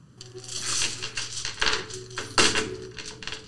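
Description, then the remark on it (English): Dice rattle and clatter across a hard surface in a quick burst of clicks and tumbling knocks, with a low steady hum underneath and no one speaking. “Your dice just said they don't want to be out.”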